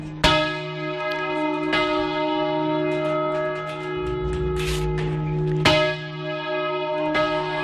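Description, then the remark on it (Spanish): A large church bell is rung by hand in the Spanish manual bell-ringing tradition, in slow, uneven strokes, each strike followed by a long resonant hum that lingers and overlaps the next. The sound is loud, with no talking. “Esta semana la UNESCO ha declarado Patrimonio Inmaterial de la Humanidad el toque manual de campana español.”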